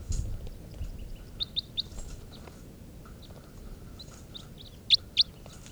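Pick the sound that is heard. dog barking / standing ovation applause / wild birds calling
wild birds calling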